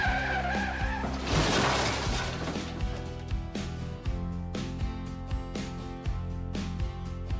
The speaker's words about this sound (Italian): Una macchina in corsa.